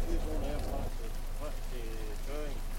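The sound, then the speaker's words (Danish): Steady rain patters in a continuous hiss at a bus station in Brastrup in the morning, while voices talk over it. “Det er morgen i Brastrup, og det regner.”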